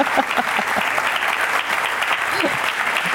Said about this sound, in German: Herzlichen Glückwunsch. Und genießen Sie diesen Applaus.